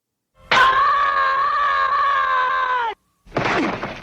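The cartoonish frustrated 'Org' scream of Charlie Brown from Peanuts, held unnaturally long at a steady pitch as it is looped, cuts off abruptly, then a shorter second yell follows after a brief pause. Loud.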